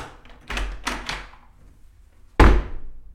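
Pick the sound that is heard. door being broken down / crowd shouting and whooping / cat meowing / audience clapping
door being broken down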